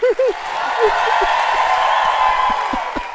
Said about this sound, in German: Ich lass mal alle für dich klatschen.